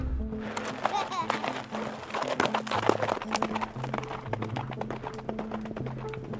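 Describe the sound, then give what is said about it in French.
Pony or horse hooves clip-clop in a steady rhythm of sharp taps as children ride ponies or horses around a cirque in the Giffre valley. The sound continues throughout over a sustained tonal background with some indistinct voice-like sound. “Certains enfants découvrent le site en poney ou à cheval.”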